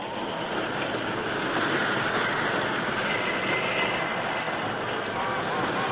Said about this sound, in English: The work train had run through the short canyon and out onto the curving track beyond before the lever responded.